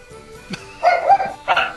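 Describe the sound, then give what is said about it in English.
A household's pet dogs bark in a quick burst: two or three sharp, fairly loud yaps close together, following a brief soft noise, with no talking over them. “And the dog agrees.”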